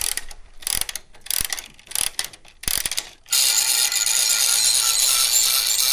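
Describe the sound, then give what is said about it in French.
A turning piece with a motor inside clicks and ratchets in uneven bursts for a few seconds, then settles into a steady, bright mechanical whir that runs continuously to the end. No voices are heard. “Il tourne, il fait du... Il y a un moteur dedans ? Bien sûr.”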